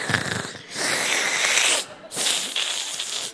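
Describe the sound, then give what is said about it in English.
A voice imitates a sick child's labored breathing: a short raspy rattle, then two long, loud, hissing breaths drawn out with a wheezy edge and a brief pause between them. “She's breathing like a really long bong hit.”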